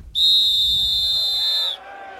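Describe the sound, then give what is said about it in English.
A single long, shrill whistle blast, loud, held steady for about a second and a half before cutting off, with a low rumble of background noise underneath; the whistle is blown as the signal for soldiers to go over the top and charge. “The whistle goes, and I just remember looking right at Si.”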